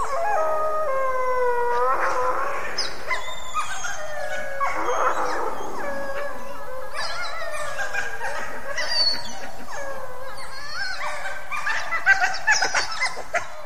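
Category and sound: animal, wolves howling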